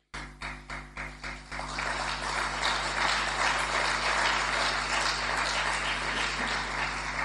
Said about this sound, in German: Danke für den Beifall. Das gibt mir die Möglichkeit, mich ein bisschen trocken zu legen.